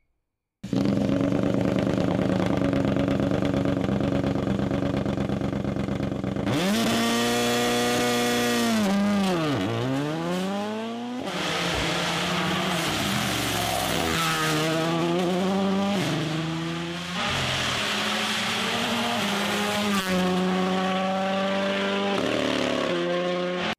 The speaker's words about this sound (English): The thing sounds amazing still. I don't know if you've actually heard it yet. I haven't. There, you need to hear it too. So that sounds angry even for a WRC car. Right? And that's with the hybrid system installed? That's with the hybrid system.